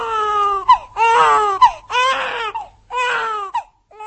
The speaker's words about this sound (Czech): Dětský pláč se v českých porodnicích už tak často neozývá.